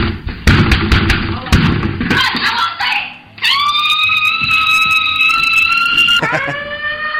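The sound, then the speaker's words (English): A grandmother's phone ringtone: a loud siren-like tone cuts in after a few seconds of muffled voices and thumps, holding a steady high wail before dropping to a lower pitch near the end. “That's the grandmother's ringtone, believe it or not.”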